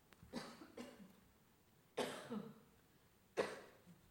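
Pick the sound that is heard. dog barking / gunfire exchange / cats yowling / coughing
coughing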